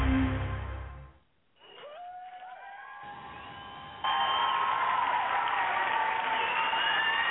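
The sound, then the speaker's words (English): A brief low rumble and a short pause, then a crowd breaks into steady applause with cheers and high whoops, growing louder partway through and holding to the end. “I think everybody should start their day with a little applause.”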